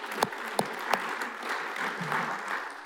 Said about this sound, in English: I want to say thank you to our worship team this morning. Let's give them a hand clap, huh?